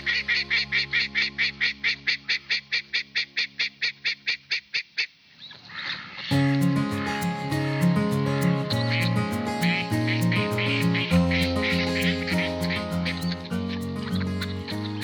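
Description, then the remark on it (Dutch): Ducks quack in a fast, steady run of loud, nasal calls for several seconds, on the last part of a listening route from Molen de Hoop in Wervershoof along the Kromme Leek, Medemblik; then a stretch of music takes over and continues to the end. “Laatste deel van de luisterroute zijn het vooral de eenden die de boventoon voeren.”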